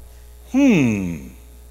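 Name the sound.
person humming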